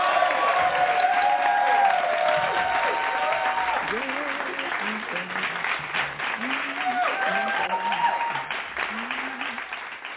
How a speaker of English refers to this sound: And we're going to welcome her with a hand clap praise. Amen. Yeah.